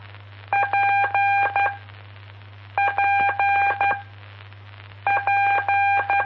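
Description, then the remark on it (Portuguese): Morse code tones spelling the letter P, short-long-long-short beeps, repeated three times with pauses between, loud and clear over a steady low hum, sent in telegraphy lessons from amateur radio station PP5 India Papa India. “E essa foi P de Papa.”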